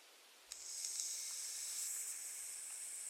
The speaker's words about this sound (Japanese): 今回は泡炭酸を使いながら洗浄していきます。泡の中に炭酸が溶け込んだものです。まずはお耳をたっぷりの泡で包み込みます。